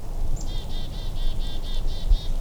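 Quiet outdoor winter woodland ambience at the Oak Hill Trailhead in Cuyahoga Valley National Park on a cold Thanksgiving morning, with snow blanketing the trails: a soft low rumble of wind, while a small bird repeats a thin, high chirp about eight times in an even, quick rhythm. No one speaks.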